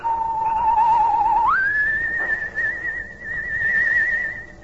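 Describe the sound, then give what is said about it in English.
A single soft, sustained human whistle signal on a still night at a cypress grove behind the Horton house by a swamp, holding a low note for about a second and a half, then sliding up to a higher wavering tone held steadily until it fades, with nothing else around it. “Suddenly, the shadowed outline of a human figure appeared at the edge of a cypress grove behind the weather-beaten Horton house, and a soft, whistle signal rides the still night air.”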